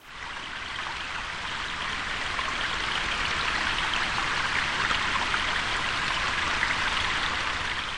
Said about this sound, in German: Herzlich willkommen an der Kortane. Hören Sie es? Das Rauschen? Das bin ich, die Kortane. Viele, viele tausende Wassertropfen ziehen zusammen von der Quelle bei Großpankow bis zur Mündung in die Elbe bei Wittenberge.